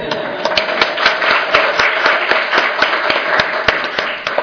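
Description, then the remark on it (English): An audience applauds steadily for a few seconds for the previous speaker, a dense wash of many hands clapping with individual sharp claps popping out, fairly loud and even throughout, with no talking. “Before I start, I just want us to give an extra round of applause to our previous speaker for both her honesty and her bravery.”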